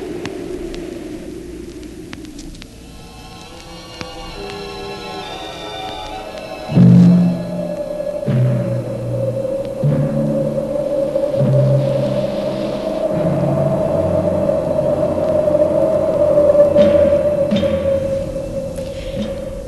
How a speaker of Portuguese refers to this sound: Mas hoje não haverá tempestade, não. Como não houve ontem. Só o vento